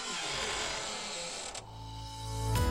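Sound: door creaking open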